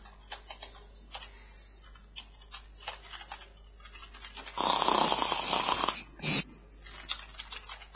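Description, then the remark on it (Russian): A single raspy, breathy snore lasts about a second and a half, followed by a short second snort, over a quiet background of faint scattered ticking and clicking. “Явно храпит.”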